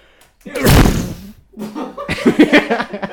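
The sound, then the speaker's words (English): A single loud, sharp sneeze bursts out and quickly fades, followed after a short pause by a stretch of chuckling, voiced sounds. “Bless you.”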